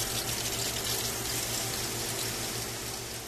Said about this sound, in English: Water laced with a nutrient mixture sprays down plant roots every 8 minutes.